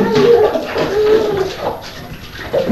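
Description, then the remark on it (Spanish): Water sloshes and splashes in a bathtub, a steady churning stirred by small hands, with brief squeaky tones and a faint child's voice mixed in. “¡No te bebas el agua del bañete!”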